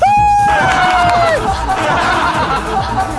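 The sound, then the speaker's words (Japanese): An applause and cheering sound effect: a loud burst of crowd cheering and applause, with a sustained whistle-like whoop sliding down at the start, settling into steady clapping and chatter from a lively audience. “サメさん拍手。”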